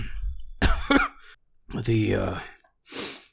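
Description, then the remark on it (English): A man acts out a weak, raspy cough in a few ragged bursts, ending with a breathy exhale, like a dying man feebly coughing on a deathbed. “He kind of coughs.”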